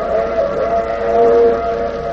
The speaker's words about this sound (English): the wailing whistle of the fast express.